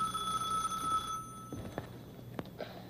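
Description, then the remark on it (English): A telephone rings with a bright, steady electronic tone for just over a second, then cuts off as it is answered, followed by a few sharp clicks and soft handling thumps. “Telephone's ringing.”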